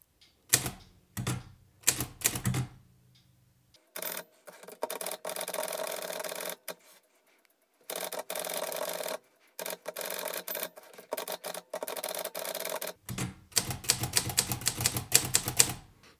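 A manual typewriter clacks away, shifting about as it is typed on, with a few separate keystrikes, then long stretches of rapid, continuous mechanical rattling and a final burst of sharp, dense key hits. Nobody speaks.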